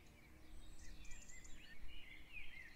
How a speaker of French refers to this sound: Il règne un silence envoûtant, ponctué çà et là de jolis chants d'oiseaux.